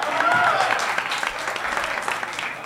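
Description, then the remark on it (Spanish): A crowd claps loudly and steadily in a dense wash of applause for the audience at a Mazacote Live show, with a few faint voices or cheers rising briefly over it near the start. “Hoy es 25, un aplauso para ustedes.”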